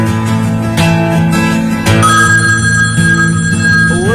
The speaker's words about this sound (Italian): Squilla il telefono della Onda Rossa.